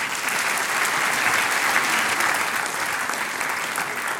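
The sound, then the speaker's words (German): Sustained applause from a sizable audience, a dense steady patter of many hands clapping at full volume throughout, with no pauses and no voices standing out. “Der große Applaus gehört.”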